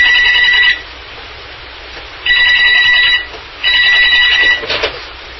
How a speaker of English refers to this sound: the phone rang at the right time.